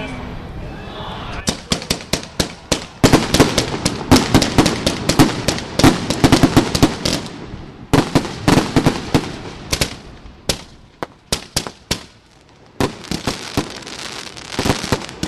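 Dragon egg pyrotechnic sparks, made partially with lead azide and burning at over 2,000 degrees, crackle in dense, rapid bursts of sharp pops, coming in loud clusters with brief lulls between them, then a final scattered flurry.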